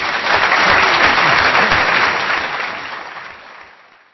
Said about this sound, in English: Well, I think probably it's time to finish that section of the evening tonight. I think we can give Sir Bernard a round of applause.